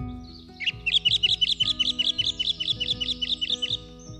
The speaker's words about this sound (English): On the 5th, people are encouraged to listen out for beautiful birdsong at the break of dawn. Here are some of the songs you may hear. The song thrush.